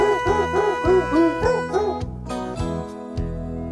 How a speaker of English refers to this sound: And that goes for the dogs barking. The Jingle Bell thing.